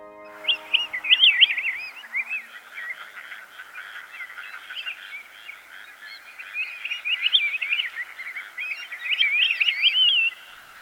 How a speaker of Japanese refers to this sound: 農道を歩いていると鳥の群れが舞い降りてきました。鳴き合う声は胸黒です。